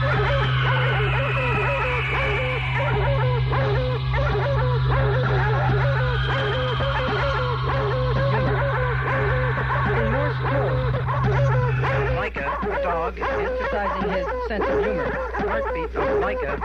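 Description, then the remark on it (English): A dog barks and yips repeatedly in quick succession, fairly loud, over a steady low hum that drops away near the end; the dog is Laika, a curly-haired dog specially trained for the Sputnik 2 flight into outer space. “Was Laika, a curly-haired dog who had been especially trained for this flight.”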